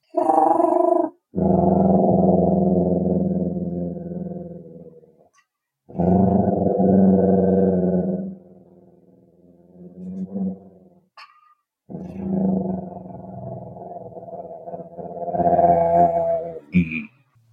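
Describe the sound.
A person imitates a Tyrannosaur's cooing call with several long, low, throaty coos that have a gurgling, rumbling texture, separated by brief pauses, with no words spoken.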